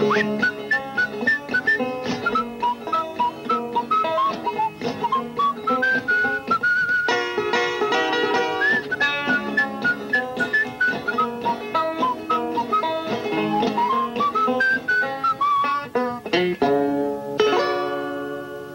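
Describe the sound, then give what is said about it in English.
Someone whistles a lilting tune over full instrumental backing, the bright melody rising and falling steadily for nearly twenty seconds before the music stops. “You know how to whistle?”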